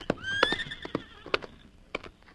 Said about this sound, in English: Come on, get up there. Get up. Whoa. There's his horse.